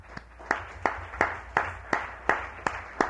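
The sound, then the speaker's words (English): Steady rhythmic clapping, about nine evenly spaced sharp claps, each trailing off into a brief wash of sound before the next, a round of applause for a magazine staff member. No one speaks over it. “Could you step out here for a round of applause?”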